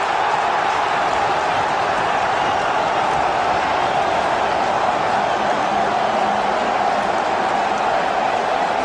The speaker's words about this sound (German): Hamburg jubelt, Hamburg feiert Van der Vaart. Ja, das war das Bielefeld, erste Bundesliga.